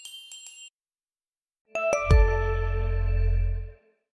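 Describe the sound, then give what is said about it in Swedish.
A brief tinkling chime, a short pause, then a clear ringing doorbell tone at a house in Tullinge, with bright sustained harmonics over a low hum, lasting about two seconds before cutting off. “Och hon och hennes make har då ett hus i Tullinge och jag ringde på där men hon var inte hemma.”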